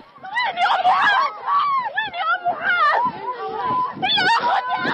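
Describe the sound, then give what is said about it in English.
A woman screams and wails repeatedly in loud, strained, rising cries, piercing, with frantic voices overlapping throughout, as she runs through the darkness of a refugee camp toward a tent that has caught fire, filming on her phone. “She screams over and over in the video.”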